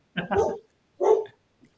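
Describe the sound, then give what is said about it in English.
Two loud dog barks, about three-quarters of a second apart, each sharp and harmonic, followed by a faint brief sound and then quiet. “Oh, it's my dog this time.”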